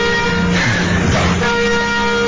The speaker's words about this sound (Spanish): Se escucha la alarma de emergencia allí en la planta de Gibraltar.